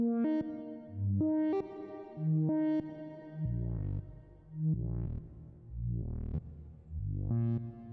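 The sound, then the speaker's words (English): A synthesizer plays a repeating sequence of plucky, harmonic notes, their tails swelling and smearing as the reverb character shifts, turning washy and diffuse in the second half. No voices are present. “Change the reverb algorithms.”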